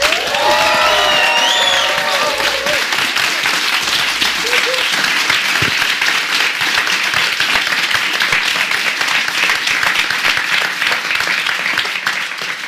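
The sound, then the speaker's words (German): A live audience applauds loudly and steadily as guests are welcomed, dense clapping filling the whole stretch, with a few whoops and cheers at the start before the clapping carries on and eases slightly toward the end. “Nach 35 Minuten ebbte der Applaus ab.”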